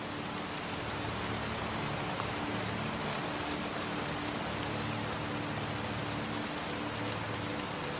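Steady rain patters down in a forest in a soft, continuous hiss, drops tapping on leaves, moss and wood, alone with no voices.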